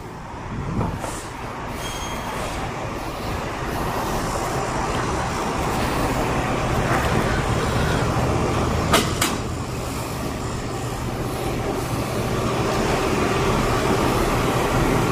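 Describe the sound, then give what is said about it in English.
Steady, loud street traffic with a deep engine rumble of diesel trucks passing, plus a couple of brief sharp clanks midway; no one speaks. “More trucks, more diesel.”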